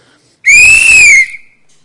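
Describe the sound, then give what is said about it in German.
A single loud, shrill blast on a referee's whistle, held for just under a second and then cut off with a brief fading tail, with no talking. “Und ich habe es mir angeschaut und dann stand ich vorne, aber mit der richtig lauten Pfeife.”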